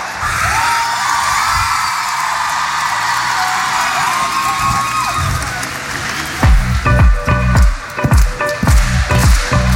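A festival crowd at Festival EDP, broadcast live on RTL2 Pop Rock Live, applauds and cheers loudly, with whoops and shouts over a dense wash of clapping; after about six seconds, rhythmic low thumps of music kick in beneath the noise.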